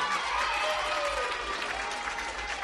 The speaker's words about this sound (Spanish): Del Sagrado Corazón. Agustino Recoletos, ¡un fuerte aplauso!